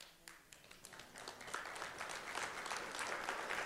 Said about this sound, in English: you don't have to clap for yourself, buddy. That's all right. It's awkward.